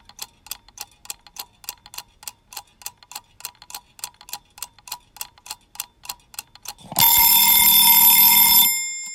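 A mechanical kitchen cookery timer, bought from a charity shop, ticks steadily for several seconds, then its bell rings loudly and continuously for about two seconds before cutting off. Clear, with no talking.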